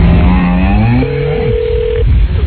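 Telephone tones over a narrow phone line: a quick run of dialing beeps followed by a steady electronic ringing tone, clear, with no voices.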